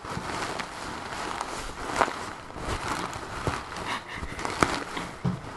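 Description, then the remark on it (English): A cushion stuffed with shredded office paper being squished, giving a steady papery rustle with soft crinkly crunches and a few sharper crackles, fairly quiet, with no voices. “It's filled with shredded office paper.”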